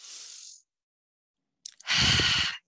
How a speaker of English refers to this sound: And let's remember that we're breathing by taking a deep breath.